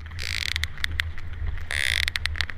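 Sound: sperm whale echolocation clicks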